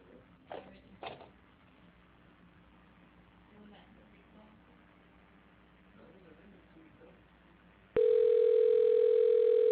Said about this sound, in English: Okay, we got dial tone. We got a ring.